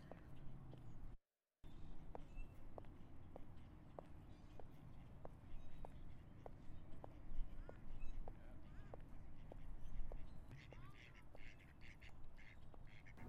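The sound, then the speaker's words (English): Ducks quack near the speaker in Blacksburg, in Appalachia, over steady outdoor ambience. Some of the ducks waddle nearby, with a regular ticking patter of steps that repeats about twice a second. There is a brief silent dropout near the start. “There are the ducks. Some of them are waddling near me.”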